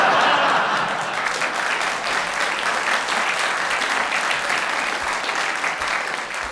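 A steady, dense round of audience applause fills the whole stretch, many hands clapping at an even, loud level with a faint chuckle or two mixed in.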